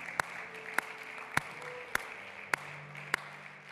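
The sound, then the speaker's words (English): An audience claps in unison, giving the Lord a hand clap: six sharp, evenly spaced hand claps about half a second apart over a steady low background murmur, with no talking. “Yes, the Lord deserves a hand clap.”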